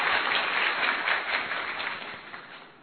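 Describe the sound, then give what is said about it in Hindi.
An audience claps together at the end of a yoga session, a dense, steady patter of many hands, holding at an even level before gradually thinning and fading out toward the end. No one speaks. “अच्छा लगा सबको? ताली बजाकर बताओ तो सर।”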